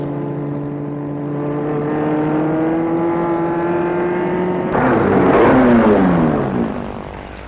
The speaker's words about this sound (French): Sans s'en rendre compte, il est arrivé devant l'immeuble de chez Babette. Il va arrêter la voiture.